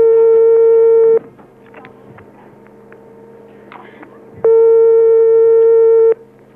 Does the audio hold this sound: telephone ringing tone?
yes